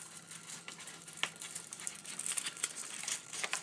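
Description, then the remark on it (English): Crinkly rustling of the paper wrapper of a Green & Black's chocolate bar being handled as the chocolate is broken up, with irregular crackles and small sharp snaps for a few seconds, no voices. “Nice rusty paper here.”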